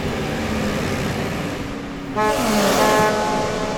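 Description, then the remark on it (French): Busy street traffic rumbles steadily, then a car horn sounds with a sustained toot partway through, sitting over the continuous roar of passing vehicles. “Autour d'elle, les voitures faisaient des bruits de soucoupes volantes.”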